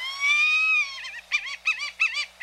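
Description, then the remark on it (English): A white-tailed hawk calls alone: one long, drawn-out harmonic cry, then a rapid series of five or six short, bleating notes in a choppy rhythm. “Otherwise, the handsome white-tailed hawk is a shy bird of prey, staying a good distance from admiring observers.”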